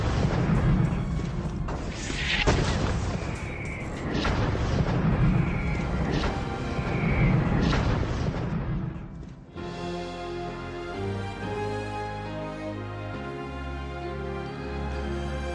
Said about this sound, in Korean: 영국 함선들은 포트 맥헨리에 함포 사격을 가했습니다. 영국군이 쏜 포탄과 박격포탄은 비오듯 포트 맥헨리에 떨어졌습니다.